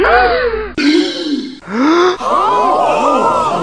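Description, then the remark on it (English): A quick run of loud, breathy voiced gasps, about four in a row, each cutting sharply into the next like separate reactions stitched together, with no talking. “You may well gasp, but this will always be a news nugget.”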